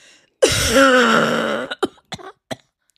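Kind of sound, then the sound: vocal imitation, imitated cough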